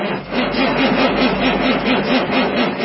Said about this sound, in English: Stiction. It's the cholesterol of your diesel engine that clogs the arteries of your injectors, causing hard starts, bucking and chugging, and potential injector failure.